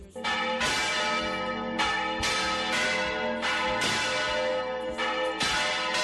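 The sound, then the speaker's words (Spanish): Church bells in the village of Viguera, Spain, ring out loudly, with a steady series of overlapping strikes whose rich tones keep ringing between each new peal. No voices are heard. “Entre otras consecuencias del derrumbe, el pueblo se quedó sin ese sonido de las campanas.”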